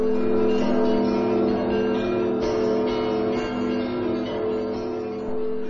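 Church bells in the city of Kyiv peal loudly and continuously in welcome, overlapping strikes blending into a dense, ringing wash of sustained tones with no voices present.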